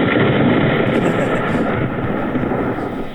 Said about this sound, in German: Raincloud. Raincloud? Ja, Raincloud. Mhm. Raincloud. Das hat man auch gehört hier.